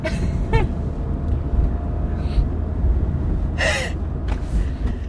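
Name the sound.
sneeze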